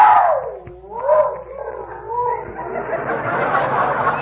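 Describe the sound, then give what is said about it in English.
A dog, Tiny, howls at night from his new doghouse outside in long, wavering tones that slide down and rise again, the pitch bending slowly before breaking into a rougher, breathier sustained wail. “Not if he keeps howling like that, he won't.”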